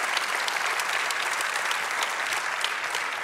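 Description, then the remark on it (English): Sustained applause from a sizable audience for the Beaver Creek campus and its official grand opening on August 8, a dense, steady wash of clapping hands with no pauses and no voices rising above it. “Now, if you've been around for a little while, yeah, you can give them a big round of applause.”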